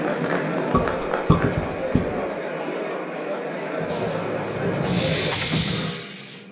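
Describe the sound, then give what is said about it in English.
A steam train hisses steadily at a station, a broad rushing hiss with a few dull clunks early on, swelling louder near the end before tapering off. “Hurry up, we're gonna miss our train.”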